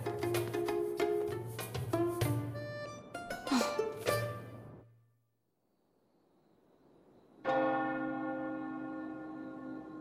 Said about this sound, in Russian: колокол звонят. Скоро уже прошедшие экзамены награды получат.